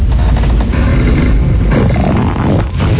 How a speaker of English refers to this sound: Oh, my. Rewind it again. That was the birth of the swamp. Hear this again. Birth of Jesus, the swamp. What a fart that was.